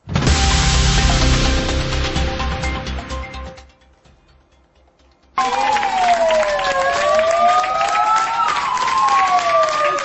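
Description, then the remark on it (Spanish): Firefighters applaud the staff of Hospital Virgen de los Lirios in Alcoy at night to thank them for their work. Loud, steady clapping for a few seconds, then a brief near-silence, followed by several sirens wailing together with rising and falling tones over the rest of the applause. “Y despedimos este informativo con los aplausos que ayer por la noche los bomberos tributaron a todo el personal de sanitario del Hospital Virgen de los Lirios de Alcoy para agradecerles la labor que están realizando estos días.”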